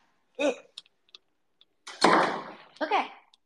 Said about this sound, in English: I need to close the door. Gonna put this here. I'm gonna close the door.